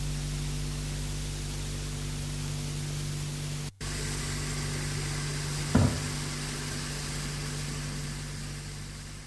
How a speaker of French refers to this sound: C'est l'aspirateur.